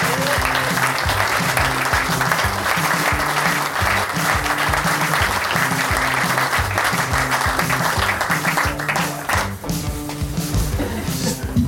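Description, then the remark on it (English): Sustained audience applause as guests are welcomed onto a stage at a live event: dense steady clapping from a sizable crowd with a few thumps underneath, holding loud for about ten seconds before easing slightly near the end. “Round of applause.”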